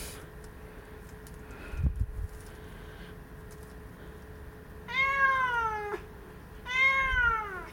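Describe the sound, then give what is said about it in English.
A played recording of a tomcat meowing twice, long drawn-out calls with a rising-falling wail, clear, separated by a short pause, with faint background noise and a soft thump earlier. “Hi folks, I'm going to try playing the sound of a tomcat meowing and see if it gets Kim's cat all excited, as it sometimes does.”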